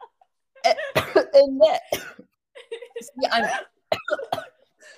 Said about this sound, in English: Sorry, I'm coughing just thinking about it.